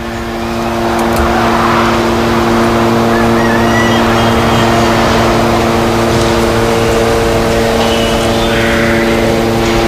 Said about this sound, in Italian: Anche se, come faccio a concentrarmi con questo rumore tutto il giorno? È costante. I droni israeliani osservano tutto. È come una prigione a cielo aperto. Tu non li vedi, ma loro sì. Ti vedono. Sempre.